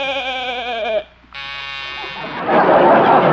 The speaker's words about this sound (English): what was that? That's a new door buzzer, Doc.